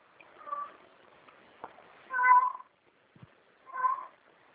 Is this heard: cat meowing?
yes